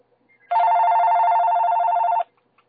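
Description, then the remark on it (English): A telephone on a radio call-in line rings once, a loud, steady electronic trill lasting under two seconds, heard alone with no voices and near silence before and after. “I'll try another phone here.”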